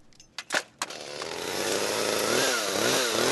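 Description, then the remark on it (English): A chainsaw used by the Palm Squad to trim a palm tree: a few short sputtering bursts, then the engine settles into a loud, sustained buzzing whine that wavers up and down in pitch as it cuts. “We're getting ready to trim this palm tree today.”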